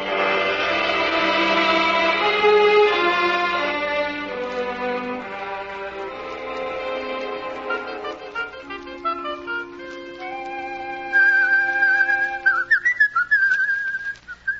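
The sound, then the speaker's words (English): A person whistles a wavering melody, clearest and loudest near the end, over a soft, sustained musical backing. No one speaks. “I didn't know you could whistle about our troubles.”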